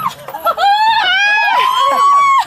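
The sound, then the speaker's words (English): People scream on an amusement ride, a loud, sustained, high-pitched shriek held for about two seconds, with other voices overlapping and crying out alongside it. “Yeah, this is the screaming.”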